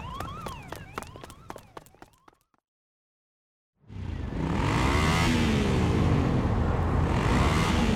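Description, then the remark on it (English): After a brief wailing tone and a short silence, a loud motorbike engine bursts in, revving up and down repeatedly and roaring steadily as it pulls away. “He's on the motorbike now.”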